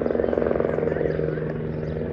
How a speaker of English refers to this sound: If you live in Chicago, you've seen and heard helicopters.